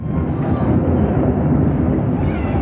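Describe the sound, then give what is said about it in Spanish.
A heavy, continuous roar of American military aircraft passing overhead during a bombing of Caracas, Venezuela, in the early morning, loud, a dense low rumble that holds steady for the whole few seconds with no voices. “Los ciudadanos de Caracas se despertaban repentinamente con el sonido de sirenas, sonidos de aviones, helicópteros, bombas.”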